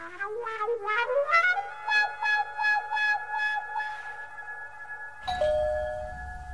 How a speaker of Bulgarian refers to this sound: Звъни се. Не съм глуха. Пак се звъни, но няма да отваряме.